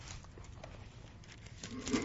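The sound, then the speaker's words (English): Soft papery rustling and crinkling as thin Bible pages are turned, a series of light, uneven swishes and flutters that stay fairly quiet, with no voices. “I have a hardest time turning the pages on this Bible.”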